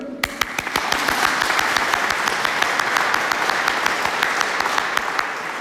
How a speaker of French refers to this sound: On a le droit d'applaudir et de crier. Alors c'est vrai, en France, on n'est pas très habitué à ça. Ça paraît inconvenant, ça paraît impoli. Ben, si c'est un commandement de Dieu, il faut le faire. On applaudit Dieu.